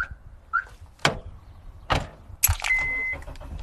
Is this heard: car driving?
yes